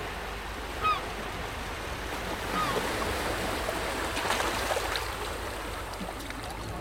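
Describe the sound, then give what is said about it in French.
A black-headed gull gives a sharp, brief call, then a fainter one, over a steady wash of surf and lapping water at the harbour below the Scala ramparts of Mogador. No one speaks. “De hauts remparts, appelés Scala, s'élèvent autour de moi, gardés par d'innombrables mouettes rieuses et affamées, quelques poissons en bec, volés depuis les légendaires bateaux bleus du port.”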